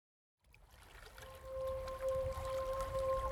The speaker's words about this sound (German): Leise schwappen die Wellen ans Boot.